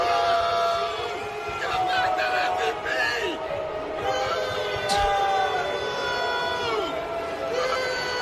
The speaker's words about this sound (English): Here was another clip of fans yelling at Altuve. If you can't make out what they're saying, give back the MVP.